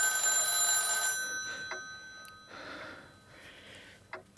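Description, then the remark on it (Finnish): A telephone bell rings loudly and persistently at 4 o'clock for about a second, its tone lingering briefly before fading, followed by soft breathy gasps and quiet rustling with no speech. “Soittaa todella sinnikkäästi, vaikka kello on jo 4.”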